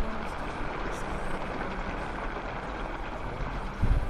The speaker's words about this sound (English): this week coming to you from a little cabin outside of Aberdeen, Scotland, where the rain is coming down. You can hear it hitting the tar paper roof.